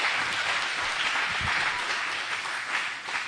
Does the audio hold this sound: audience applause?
yes